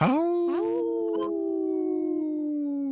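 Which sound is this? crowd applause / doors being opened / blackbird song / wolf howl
wolf howl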